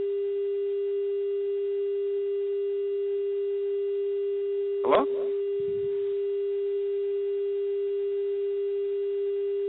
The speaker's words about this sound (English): It sounds like there's a dial tone. That someone didn't hang up their phone.